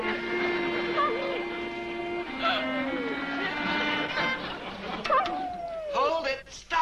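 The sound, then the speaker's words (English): A dog howls in long, drawn-out tones that waver and slide up and down, continuing steadily for several seconds with brief yelping breaks near the end. “Let him howl. Maybe he knows something we don't know.”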